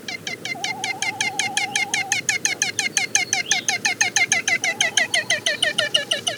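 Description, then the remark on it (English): A male frigatebird gives a fast, steady train of hoarse, chattering cackling notes, repeating without pause throughout, loud, with a brief wavering whistle-like tone underneath early on; males utter this cackle on breeding grounds to attract females, inflating an orange pouch below the bill. “The best place to hear their vocalizations are on their breeding grounds, where the males attempt to attract females by blowing up a brilliant orange balloon-like pouch below their bills and uttering a hoarse cackle when the female comes near.”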